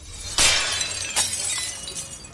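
Two vases crash and shatter: a sudden bright burst of breaking glass or ceramic, a second sharp smash a moment later, then scattered tinkling fragments settling. No one speaks.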